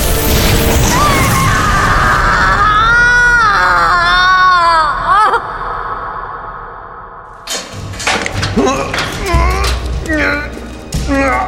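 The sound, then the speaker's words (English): A woman screams loudly and shrilly for several seconds as her injured hand is healed, her voice wavering and breaking, then trails off before a burst of crashing, clattering noise and strained cries follows. “I won't scream. As it turned out, she lied.”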